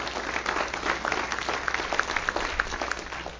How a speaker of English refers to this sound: Come on, everybody stand up this morning. Give the Lord a good clap offering this morning. Would you do that with me? Come on.